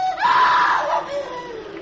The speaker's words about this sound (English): approached my sister, who had screamed.